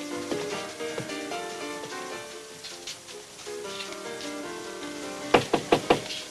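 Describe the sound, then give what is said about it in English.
Soft orchestral music plays, then four firm, evenly spaced knocks on a dressing room door ring out near the end, standing out sharply above the music. “He leans close, glances back at Marilla, then lifts a hand to the door.”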